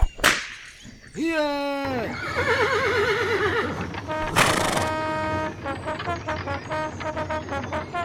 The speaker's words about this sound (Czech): Kočí, práskněte do koní.